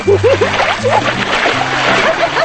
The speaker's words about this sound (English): Suddenly, she lifts the bucket and drenches him. Grinning, they throw water at each other.